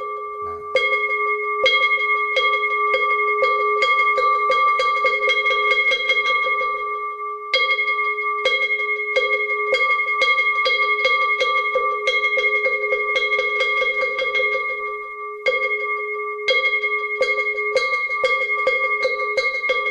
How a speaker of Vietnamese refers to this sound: Sau đó chúng ta cho ba hồi chuông và mõ.